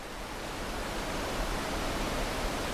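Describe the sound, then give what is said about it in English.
A steady, dense roar of rushing water from a waterfall in Judge C.R. Magny State Park on Minnesota's North Shore fills the whole clip without a break, broad and hissing, with no voices. “It's picturesque, surrounded by the lush wilderness of Minnesota's North Shore, and powerful enough to get that real good, relaxing roar of rushing water.”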